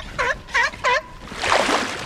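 A seal in the Antarctic calls three times in quick succession, short honking barks with a wavering pitch, followed by a longer rush of splashy noise. No one speaks.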